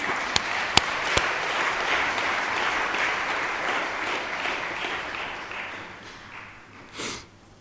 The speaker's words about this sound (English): And that just needs a clap.